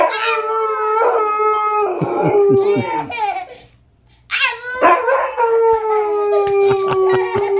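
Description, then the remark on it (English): A husky howls loudly in long, wavering, rising-and-falling cries, pausing briefly before launching into another sustained howl that slowly trails downward. “A howling husky, because a husky is a most vocal dog, and a laughing kid.”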